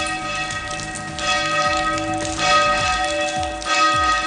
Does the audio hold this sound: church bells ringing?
yes